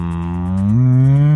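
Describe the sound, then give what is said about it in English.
A person who is meditating lets out a long, low, droning moo, sounding like a cow. The single sustained tone is loud, sliding slightly in pitch midway, with no other talking. “Why are you doing that noise? Don't know. Just meditating. You sound like a cow.”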